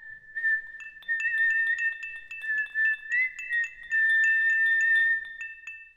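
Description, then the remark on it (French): Someone whistles a simple, wavering tune in a clear, steady tone while walking away, with light tinkling accents in the background; no one speaks. “Une fois achevé son ouvrage, l'apprenti mit le collier piège à l'eau et s'éloigna en sifflotant.”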